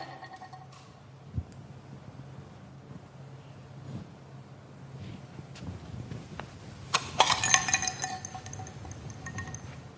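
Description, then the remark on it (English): A dirty, cracked clay pot used as a visual aid smashes with a sharp, loud crash partway through, followed by clinking shards scattering briefly, after several seconds of quiet low background rumble. “The pot smashed.”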